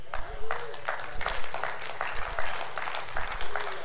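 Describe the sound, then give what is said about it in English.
A church audience at a morning service claps together in a steady, even rhythm, about two claps per second, the crisp beats fairly loud over a low murmur of voices. “You're clapping, but there's a little cynicism in there from my voice.”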